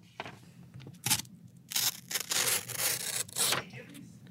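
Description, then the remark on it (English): A razor blade slices through a piece of paper in several short, scratchy bursts, then one longer rasping cut, fairly quiet with a faint low hum underneath and no talking. “Oh, I have a little knife. I have a razor. I'm going to do my best to not cut myself right now.”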